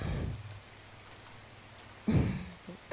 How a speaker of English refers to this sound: Yeah, no, it's raining. Raining woke me up.